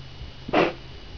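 A dog that has wrapped itself up in a bedsheet and cannot figure out how to get out lets out one short, muffled snorting burst over a quiet low background hum, with no talking.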